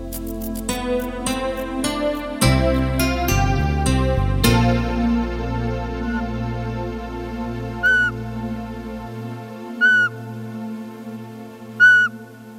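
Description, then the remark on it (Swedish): An owl calls three times during its breeding season, short sharp cries spaced about two seconds apart, heard over a sustained musical backdrop that begins with a busy instrumental passage. No one speaks. “Det är fortplantningshormonerna som tryckt på play nu när ugglorna häckar.”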